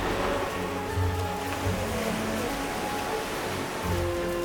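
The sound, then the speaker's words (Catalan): Steady rushing surf on the beach at Barcelona in the morning, with waves washing in and swelling every second or two over a continuous roar. A faint low hum lies underneath, and no one speaks. “Camina entre les onades fins a la sorra i passa vora pescadors i mercaders.”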